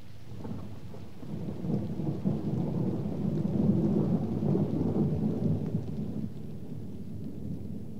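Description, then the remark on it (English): Steady rain hisses throughout while a deep, rolling rumble of thunder builds and swells in the middle before easing off, loud, with no voices. “It's raining.”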